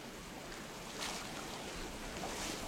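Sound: flowing river water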